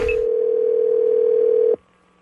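A single steady telephone ringing tone of a call to a grocery store hums for nearly two seconds, clear, then cuts off abruptly with a faint click into near silence, as the call is picked up.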